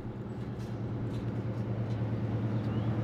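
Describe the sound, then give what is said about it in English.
Steady street traffic rumbles throughout at a bus stop on a sweltering day, with a low droning engine hum and a constant wash of road noise, no voices and no breaks in the sound. “I'm waiting for Velma at the bus stop about a block away from the Ponderosa”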